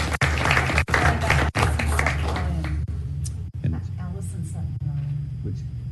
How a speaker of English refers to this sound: Please give them a real big round of applause, too. Thank you for your service.